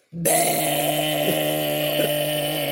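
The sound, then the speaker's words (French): A voice imitates the engine of a Peugeot 103 moped with pedals riding through a crowd, a loud, steady, buzzing drone that starts abruptly and holds for over two seconds, with slight bumps in pitch. “Mais sur un 103, sur un Peugeot 103, une mobilette avec les pédales.”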